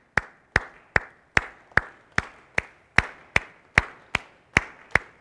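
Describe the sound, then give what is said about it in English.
An audience at the front of the room claps together in a steady, even beat, about thirteen sharp, crisp claps at a brisk regular pace, each with a brief ringing tail. No one speaks. “In front of the room, clap with this beat.”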